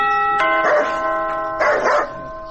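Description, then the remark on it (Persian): A doorbell at a front gate rings with a sustained electronic chime tone, loud and steady, while a dog barks in two short bursts over it. “تو پاش که یک دفعه می زنگ دروازه را بزنم.”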